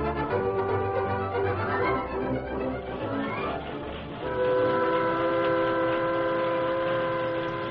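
A three-car steam train rumbles steadily along the tracks through a valley a few miles from the town of Oakton, loud, with no voices. A sustained whistle-like tone joins partway through and carries on to the end.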